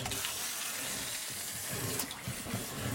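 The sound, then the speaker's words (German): Steady churning and splashing of water as a wind-up toy fish swims in a bucket of water, a continuous bubbly wash, with no voices over it. “Also, Fisch schwimmt.”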